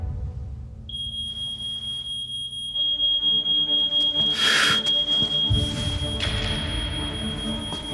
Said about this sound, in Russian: Услышав пожарную тревогу, мать бросается спасать свое дитя. Поразительно, как пожар раскрывает наши приоритеты.